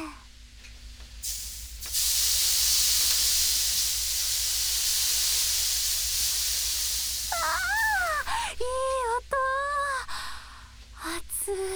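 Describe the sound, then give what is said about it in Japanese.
Lemongrass aroma water splashes onto hot sauna stones and a loud, steady steam hiss surges up, lasting several seconds before fading as voices briefly exclaim over it. “それをこの熱々のサウナストーンにかけていきます。”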